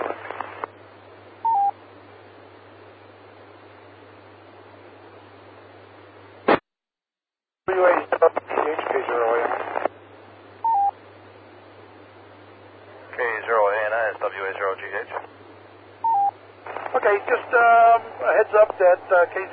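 Bursts of warbling, buzzy digital data tones, position reports sent every 15 seconds by a tracker in landing mode, repeat over a radio channel with a steady hum, separated by short squelch clicks and quiet gaps; several bursts are loud.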